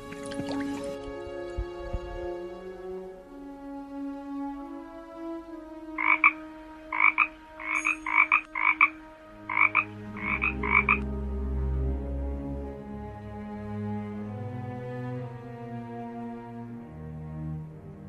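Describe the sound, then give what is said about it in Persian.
A rapid series of bright, clicking frog croaks from two frogs that jumped into pond water comes in short bursts, about eight in a row, over a soft, wet backdrop of dripping and gurgling water, with a low music-like drone underneath. “آه نگاه کن، همون دوتا قورباغه که پریدن تو آب.”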